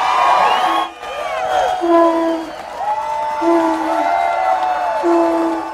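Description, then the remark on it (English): Wedding guests, a crowd of about 500 people, cheer and clap with whoops and shouts, loud, greeting a newly married couple, while a conch shell is blown in a long, steady horn-like tone repeatedly in short blasts through the commotion. “The couple was greeted with cheers, applause, and the sound of a conch shell.”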